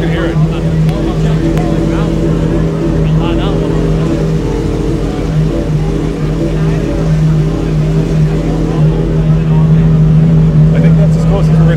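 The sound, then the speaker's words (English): The V12 engine of a Gordon Murray T50 supercar (XP1) runs loud, holding a steady, richly harmonic roar for the whole stretch before swelling slightly near the end. “The Gordon Murray car. Yep. It sounds amazing. Here, I'll hold up my mic.”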